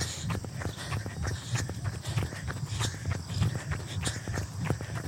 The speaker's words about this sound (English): And 3, 2, and 1. I am going downhill, so don't listen to my footsteps.